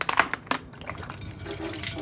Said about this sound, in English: Pour in this water bottle.